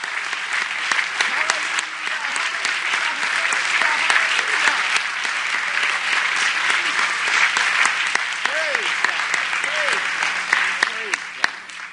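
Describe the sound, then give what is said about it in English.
Loud, sustained applause from a large church audience giving a big hand clap for Jesus, a dense wash of hand clapping lasting the whole stretch, with scattered voices calling out and cheering underneath. “Let's give Jesus that great big hand clap.”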